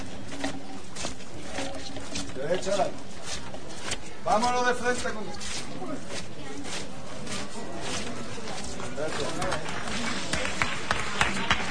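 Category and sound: crowd, applause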